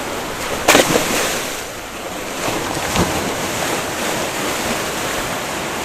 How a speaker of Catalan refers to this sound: Està clar, no? Les onades quan trenquen... Això on és? Mira, això és a Castelló d'Empúries.